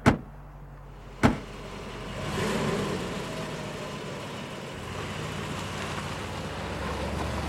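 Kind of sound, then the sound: vehicle, car driving away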